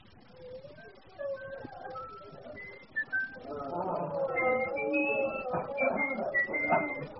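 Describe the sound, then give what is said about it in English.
A woman whistles a thin, wavering tune of short rising and falling notes, fairly soft at first, then growing fuller and louder as a denser, busier sound joins in around it. “And whistling, too.”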